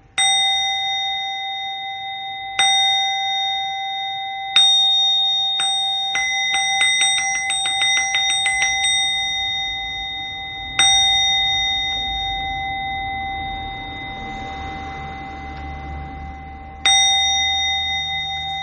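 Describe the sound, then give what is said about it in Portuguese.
A handheld bell, rung with one hand, rings out clearly, struck in spaced single strokes whose bright tone lingers, with a quick flurry of rapid rings midway and a faint low background murmur. “Eu estou com outra ocupada para tocar o sino.”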